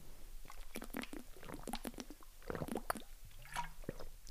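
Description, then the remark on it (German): Someone takes a drink, with quiet wet slurps, mouth clicks and a few gulping swallows in an irregular run, then a small exhale at the end. “Ich muss noch kurz einen Schluck trinken.”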